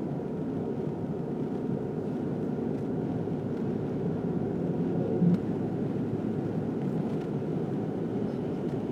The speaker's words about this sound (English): That sounds like traffic. That sounds like traffic.